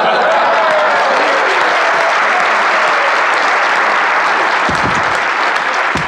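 An audience claps off rhythm to a man's song, steadily and loudly for several seconds, the dense, uneven patter of many hands never settling into a shared beat.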